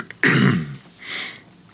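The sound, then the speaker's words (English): A fairly loud throat clearing: one harsh, rasping burst, then a softer, breathier second clear a moment later. No one speaks. “Let's take a little bit of water to clear our throat.”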